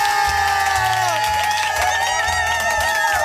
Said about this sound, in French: Tournée d'applaudissements.